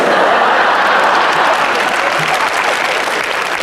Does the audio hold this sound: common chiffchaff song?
no